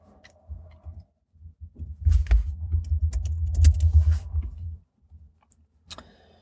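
Quick, irregular clicking of keys on a computer keyboard, fairly quiet, as someone looks up aircraft weights, over a low background rumble that swells in the middle. No one speaks.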